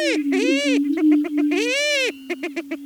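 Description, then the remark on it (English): Greater prairie chickens in loud courtship displays on a Missouri Prairie Foundation prairie in spring, on a soft breezy morning, call in a steady, low, hollow moaning whoop that swells and fades twice, followed by a string of short, evenly spaced hooting pulses. “Greater prairie chickens whoop in loud courtship displays.”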